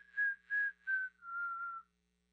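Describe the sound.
A little whistle sounds three short, even notes followed by a longer held tone that sags slightly in pitch. It is soft, clear and alone, with no talking.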